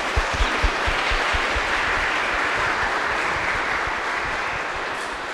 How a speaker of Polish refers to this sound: Dziękuję bardzo. Bardzo dziękuję. Wielkie brawa.